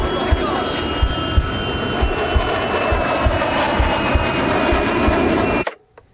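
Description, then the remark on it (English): An aircraft engine roars loudly and steadily with a high whining tone and rhythmic low thumps as a plane comes down much too fast near Pembury, south of the airfield, then cuts off abruptly near the end. “There's a plane coming down much too fast.”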